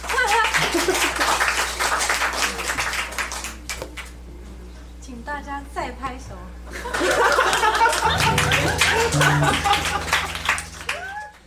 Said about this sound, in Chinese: 请大家拍拍手。